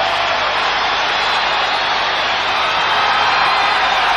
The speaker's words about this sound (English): Hulk Hogan. Yes, indeed. This capacity crowd has come alive.